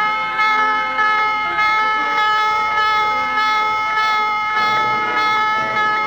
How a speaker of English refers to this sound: Sunday, August the 2nd, 1964, the destroyer Maddox was on such a patrol. Shortly after noon, the calm of the day is broken as general quarters sound.